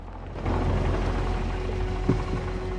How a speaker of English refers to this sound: Liam's car crawls to a halt by some railway arches, a stone's throw from Neil's bar.